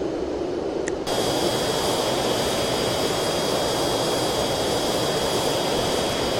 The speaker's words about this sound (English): See how spot view sounds in this plane, in flight. Spot view.